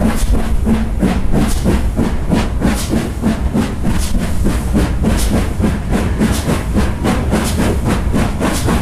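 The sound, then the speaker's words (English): A steam train on the North Yorkshire Moors Railway rattles steadily along the track, its wheels clacking in a quick regular rhythm over a continuous rumble and hiss, loud and unbroken throughout. “We've had an absolutely amazing day here at the North Yorkshire Moors Railway. We have looked at the countryside, we've sampled steam train travel”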